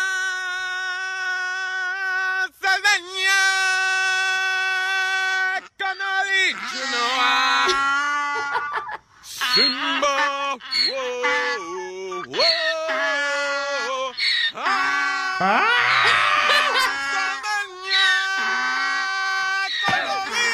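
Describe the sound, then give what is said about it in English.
A horse and a donkey standing in a field cry out over and over, loud, their calls blending into a sung melody as a man sings along with them. “Had to get all the animals around me for this one.”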